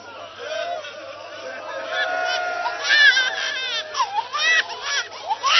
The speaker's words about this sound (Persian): این بچه شیر خورده، معلومه از گریهش پیدا شیر خورده، میتونه گریه کنه